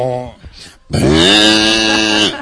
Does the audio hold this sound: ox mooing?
yes